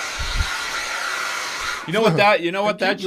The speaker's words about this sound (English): I got a hair dryer today. Can you hear that, Randy?